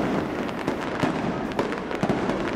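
A fireworks display in Sydney Gardens in Bath: fireworks crackle and pop in quick, irregular bursts over a steady, dense rumble, with sharp bangs standing out every half second or so, with no voices.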